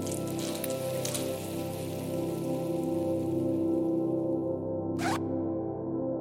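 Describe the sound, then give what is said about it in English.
A steady stream of urine sprays and splashes against a murky brown urinal in a bar bathroom, a continuous hissing patter that holds the whole time, with a short sharp rasp near the end like a zipper. “tugging at his trousers and letting his dehydrated piss spray against the murky brown urinal.”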